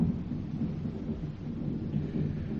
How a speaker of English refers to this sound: Oh, I hate the sound of trees in a storm at night.